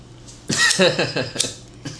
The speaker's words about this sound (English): We have a button with a whole bunch of cough sound effects, and we just like press that a lot during this part of the show.